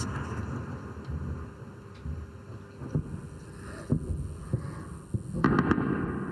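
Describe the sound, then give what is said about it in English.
Anti-aircraft rounds land and explode in the town of Isfahan, Iran, filmed on a phone: a handful of dull booms spaced about a second apart against a constant low rumble, the last few louder and bunched together. “And many of them are their own anti-aircraft defenses, their own anti-aircraft landing in Isfahan and exploding in their own towns.”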